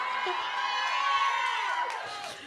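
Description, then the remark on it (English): A loud crowd screams and cheers continuously, a dense wall of high-pitched shrieks and whoops that swells slightly and then tapers toward the end. “I can't argue with screams.”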